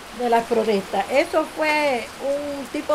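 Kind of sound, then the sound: nature, heavy rain pouring down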